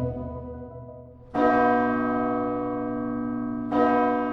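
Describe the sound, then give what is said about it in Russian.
Church bells ring out loudly for the feast of the Dormition of the Mother of God, with two strong strikes about two seconds apart, each leaving a long shimmering resonance that hangs between them. No one speaks. “На успение звон торжественный, но не такой, как пасхальный или рождественский.”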